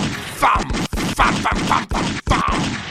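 A loud burst of gunshot sound effects: sharp, booming cracks fire in an uneven rapid series over a dense, rumbling wash of noise, with brief gaps between volleys.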